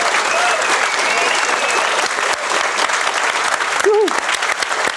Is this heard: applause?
yes